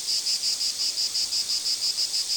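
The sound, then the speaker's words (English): The loud, buzzsaw-like calling song of a stout, 1-inch-long, black and green insect in a pine tree, heard from a patio: a high, harsh buzz pulsing in a steady rapid rhythm, about five or six pulses a second, continuing throughout with no voices. “sitting outside on my patio this weekend, my attempts at reading the Sunday paper were thwarted by an unmistakable buzzsaw-like song.”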